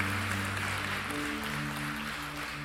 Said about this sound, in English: Come on, let's clap our hands right now and thank God for what he's doing in our midst.